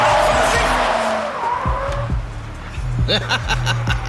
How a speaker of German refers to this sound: Ob das der Plantagenbesitzer ist? Keine Ahnung. Der kommt jedenfalls ziemlich schnell angefahren. Aha. Wenn er uns abholen möchte, dann sollte er das Auto langsam mal bremsen.